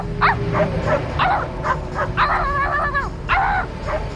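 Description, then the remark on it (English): A dog barks at another dog in a pickup truck: a steady string of short barks and yips, about eight in quick succession, some drawn out into whiny, rising yelps, over a low background rumble. “Hold on, there's a dog in a pickup truck. Got to address this.”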